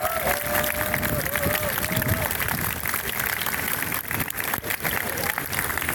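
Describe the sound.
A crowd applauds with dense, steady clapping that holds at an even loudness throughout, with a faint voice or whistle-like tone briefly audible underneath early on.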